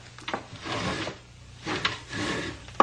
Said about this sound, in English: These dice. We will roll for a high number, eh?